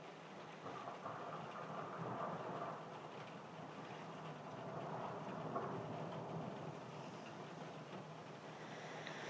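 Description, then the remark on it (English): Steady rain patters on a skylight while a low roll of thunder rumbles underneath, swelling and fading a couple of times. No one speaks. “I was just drifting off when this clap of thunder decided to roll around and make its presence felt.”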